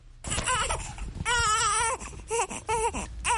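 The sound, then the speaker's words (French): A two-week-old baby cries loudly in several strained, wavering wails separated by short catches of breath, with no other voices, in Yopougon, Côte d'Ivoire. “C'est mon enfant.”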